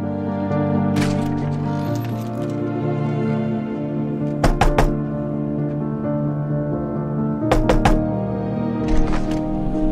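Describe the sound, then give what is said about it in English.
Two sets of sharp knocks on a front door by two police officers, about three raps each, a few seconds apart, heard over a steady bed of background music. “two police officers get out of their vehicle and knock on Caitlin's sister's front door”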